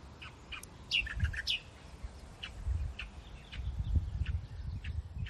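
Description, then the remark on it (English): A migratory songbird, which arrives from Indonesia to breed, sings in sunlight in short, high, bright chirps, a quick cluster at first and then single notes spaced through the rest, over a steady low rumble with no voices. “They sing from when they arrive from Indonesia, and then they just keep on singing and then breed, and I think they've finished the breeding cycle now, and they're not singing quite so much, but this one's really enjoying a little bit of sunlight.”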